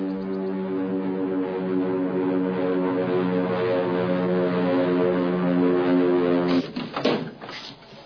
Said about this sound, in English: Father, look! Zero Sen is my plane! Father, Zero Sen!